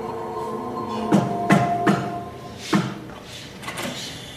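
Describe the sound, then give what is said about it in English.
The basement door of an empty warehouse creaks open with a drawn-out, groaning squeal, broken by several heavy wooden knocks and thuds as it swings. Fairly loud, with no talking. “I followed the address I'd been given and made my way to an empty warehouse with a basement door.”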